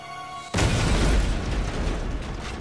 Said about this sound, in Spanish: La explosión fue la más espantosa hasta entonces.